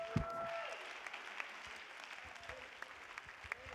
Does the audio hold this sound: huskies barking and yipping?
no